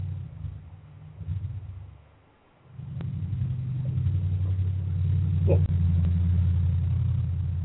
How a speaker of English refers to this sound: The pickup truck. It's a pickup truck?